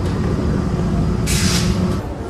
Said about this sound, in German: Es wird jetzt gleich mal laut, weil die U-Bahn einfährt.